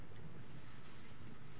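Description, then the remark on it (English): Steady, dense hiss of heavy rain pouring down, an even wash of noise with no pauses, fairly soft, with no voices. “You know, rain's a blessing.”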